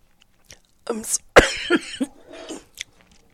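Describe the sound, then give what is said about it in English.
A loud cough bursts out with a sharp hack from a speaker whose throat is acting up, followed by a few rougher throat-clearing coughs and raspy breaths over about two seconds. “Sorry, excuse me. There is a cough.”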